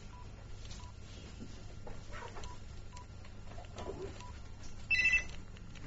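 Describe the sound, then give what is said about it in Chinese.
A mobile phone being switched off before a Buddhist sutra class begins: several soft, short keypad beeps spaced out, then a brief, brighter electronic chime near the end, over a steady low hum. “我熄咗电话，我哋就开始。”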